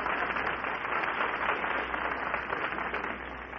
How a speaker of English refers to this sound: Well, I think you ought to take a deep bow to the audience, and I think you ought to get a big round of applause.